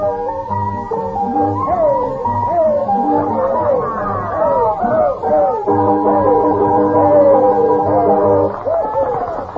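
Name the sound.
noisy restaurant crowd chatter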